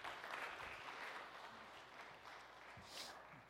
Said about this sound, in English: Y'all give them a round of applause for coming up here.